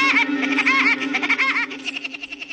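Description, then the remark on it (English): An acorn woodpecker calls from a dead oak tree with a loud, raucous, laughing series of harsh, high-pitched notes, rolling into a quicker stuttering chatter toward the end, with no voices present. “He doesn't sound exactly like Woody Woodpecker, but this acorn woodpecker was probably the model for the cartoon character.”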